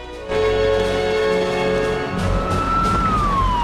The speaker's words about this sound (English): A police car pulls to a halt.